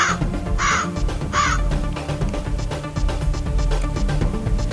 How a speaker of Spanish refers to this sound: Los lobos acababan de irse cuando el cielo se oscureció y muchos cuervos comenzaron a bajar a picotearlos a todos.